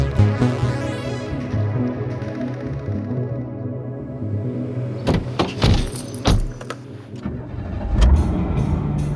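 A rough, rattly car engine cranks and catches, then idles unevenly with a low rumble, punctuated by sharp clunks and clicks near the end. Fairly loud, no talking.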